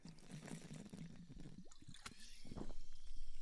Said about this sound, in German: Ich nehme das Adelholzner Alpenquellen Classic, natürliches Mineralwasser, natriumarm mit Kohlensäure und nehme jetzt einen Schluck.